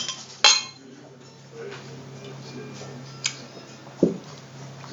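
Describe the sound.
Glasses clink together in a toast: one bright, sharp chime near the start, then two softer clinks later, with a low steady hum and quiet voices in the background.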